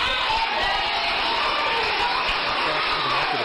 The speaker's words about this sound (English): some people with the group Utah Parents United started shouting down the board, and that's when leaders with the school board decided to abruptly end their meeting.